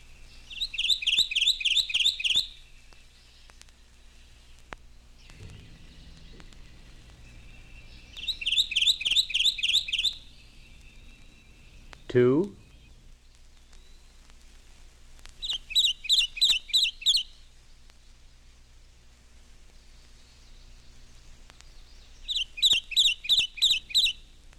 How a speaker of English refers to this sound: Kentucky Warbler, 1.